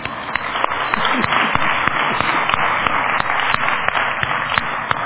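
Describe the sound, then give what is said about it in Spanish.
A crowd applauds steadily after a worship song, many hands clapping in a dense, continuous wash with sharper individual claps popping out throughout, loud and sustained with no voices over it. “¡Un aplauso!”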